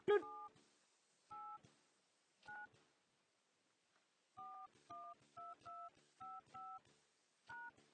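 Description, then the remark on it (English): A series of touch-tone phone keypad beeps as a 10-digit account number is dialed into a conference line, about ten short dual-tone presses, first spaced out and then in a quicker run, clear. “Please dial your 10-digit account number.”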